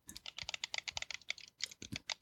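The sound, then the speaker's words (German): Game controller shoulder buttons and face buttons clicking rapidly, a dense, slightly irregular stream of sharp plastic clicks with a brief pause midway, no voices. “Das sind die Knöpfe. Warte, ich klick mit.”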